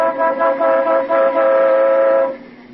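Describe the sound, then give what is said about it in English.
A car horn honks in a sustained, blaring tone that pulses a few times before holding steady for about two seconds, then cuts off. No one speaks over it. “Sounded like the horn in our car, boss.”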